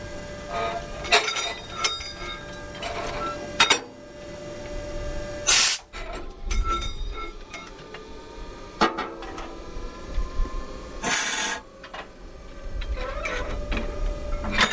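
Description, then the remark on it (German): Railway coupling work as a train driver uncouples a red locomotive from freight wagons loaded with new cars at the Maschen marshalling yard near Hamburg, Germany: scattered metallic clanks and knocks over a steady locomotive hum, with two sharp bursts of compressed air hissing out as the main air and brake lines are separated and the screw coupling released. “ich habe jetzt die Hauptluftleitung getrennt von der Lok zum Wagen, die Bremsleitung und die Schraubenkupplung habe ich gelöst”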